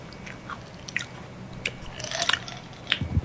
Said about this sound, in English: Stop chewing like certain people in my life.